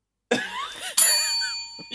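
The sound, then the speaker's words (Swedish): A very loud sneeze: a breathy buildup followed by one sharp, explosive burst that trails off, with no talking over it. “Du nyser sinnessjukt högt.”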